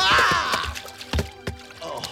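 A sudden splash as a man jumps straight up and lands with his foot in a bucket of water, followed by a couple of sloshing knocks and dripping sounds.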